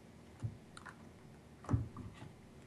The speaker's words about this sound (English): Okay. Well, I've shuffled and I'm relaying out your cards. All right. With that focus in mind.